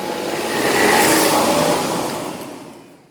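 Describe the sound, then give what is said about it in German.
A car engine revs and the car pulls away after a parent drives a child to school, the sound swelling to a peak before fading as it drives off. No one speaks. “Nur weil ich mein Kind mal mit dem Auto zur Schule bringe, werde ich gleich angesprochen.”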